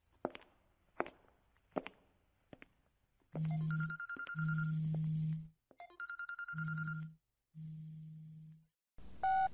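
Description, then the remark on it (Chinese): A few sharp clicks or taps, then a telephone rings loudly, an electronic ringtone repeating in long bursts separated by brief pauses, with no one speaking. It is a husband calling his wife just after her work meeting. “喂，老公啊，这个时候来电话有事儿吗？”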